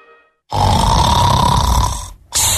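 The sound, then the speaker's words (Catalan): A person snores heavily in their sleep: one long, loud, rasping snore with a low rattling buzz, a brief pause, then the next snore begins. No one speaks. “No despertis. Déu està somiant amb el cotxe que vol.”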